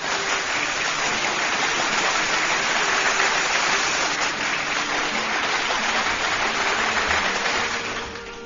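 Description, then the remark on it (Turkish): A dense, steady wash of audience applause for poet Servet Cabiroğlu after his poem, many hands clapping together at an even, loud level for several seconds before tapering slightly at the end. No voices are heard. “Kocaman bir alkış Servet Cabiroğlu için.”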